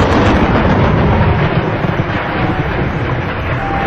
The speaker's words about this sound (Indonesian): hujan yang sangat besar turun.